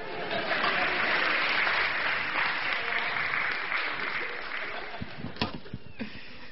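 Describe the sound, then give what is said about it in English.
A crowd applauds in a steady, dense wash of clapping that holds for several seconds, then thins out into a few scattered claps at the end. “Finish. Clap.”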